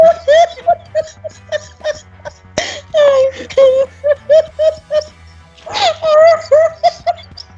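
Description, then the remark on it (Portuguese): A woman cries in loud, rhythmic bursts of high, breathy sobs and gasps, coming in quick repeated spurts with brief pauses, without clear words. “Senão como é que eu vou apresentar ela se ela tá chorando?”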